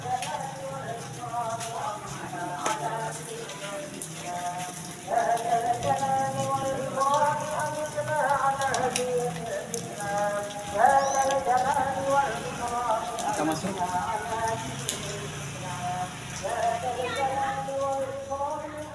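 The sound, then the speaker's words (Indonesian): Steady rain patters down throughout, a constant hiss of drops on a surface beneath voices that talk over it. “Kita tunggu karena hujan.”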